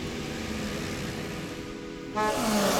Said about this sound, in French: Autour d'elle, les voitures faisaient des bruits de soucoupes volantes.